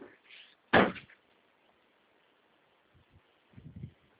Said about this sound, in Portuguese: Deixa eu só abrir aqui a porta para ele, peraí.